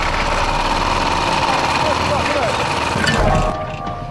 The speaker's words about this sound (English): They've sparked up the lawnmower engine, but something's badly wrong.